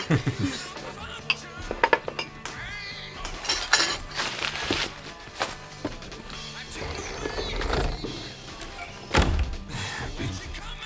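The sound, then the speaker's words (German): Dishes and cutlery clatter and clink as a nurse gathers them up after a patient's meal on a hospital ward, with scattered thunks of plates set down and brief bursts of louder rattling, with faint voices in the background. “Nehmen Sie das Geschirr weg”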